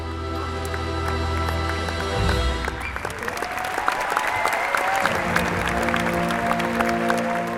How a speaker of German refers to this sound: Hat das Publikum auch gejubelt, wie wir hier gehört haben, beim 19. Roncalli-Weihnachtszirkus im Berliner Tempodrom.